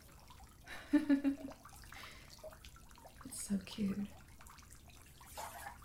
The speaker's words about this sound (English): Wait, don't splash me. Hey, it's okay. It's just home. You're in the bath.